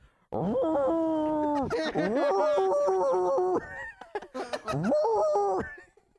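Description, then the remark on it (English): A person imitates a basset hound's howl with long, wavering, drawn-out vocal notes, loud, sliding in pitch with brief breaks between howls. “You do the basset hound.”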